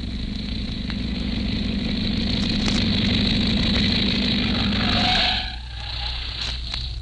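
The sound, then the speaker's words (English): A sound truck's engine rumbles steadily with a low, continuous drone as it arrives, then the noise eases off slightly as it settles into a quieter idle near the end. “arriving with the sound truck.”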